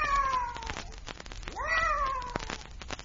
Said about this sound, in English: I wonder what that cat was doing here. Probably mascot for a regiment of witches. And this is their GHQ.